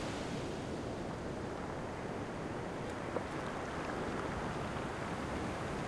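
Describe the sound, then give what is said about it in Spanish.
Steady roar of ocean surf washing onto a shore on a clear, mostly sunny day with a light breeze, with gusts of wind buffeting the microphone throughout. No voices, just a continuous wash of water and wind. “Tienen el mar frente a ustedes. Escuchan las olas, algunas gaviotas y el viento.”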